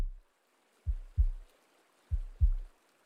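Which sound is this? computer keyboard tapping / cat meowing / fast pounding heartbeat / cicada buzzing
fast pounding heartbeat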